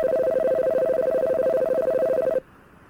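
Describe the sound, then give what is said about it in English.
A telephone rings through an amateur radio reverse phone patch: one loud, warbling electronic trill, thin and band-limited, lasting a couple of seconds before cutting off abruptly into faint background hiss. “I've got a reverse patch that I better answer.”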